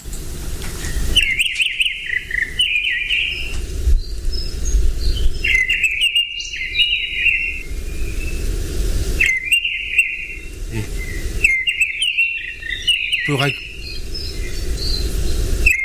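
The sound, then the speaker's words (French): A mistle thrush sings short, clear fluting phrases, repeated every few seconds with brief pauses, loud over a steady background hum of insects. “Ah, c'est la grive de renne. Alors, la grive de renne, elle se caractérise par le fait qu'elle va avoir ce sifflement”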